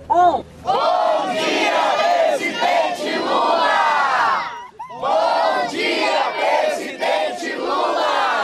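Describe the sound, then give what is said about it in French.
At 9 a.m., a large crowd at a vigil of the landless workers' movement shouts good morning to President Lula together, many voices rising in loud, sustained chanting that breaks off briefly midway before surging again at full volume. “Il est 9h du matin et c'est le moment de crier un bonjour président Lula.”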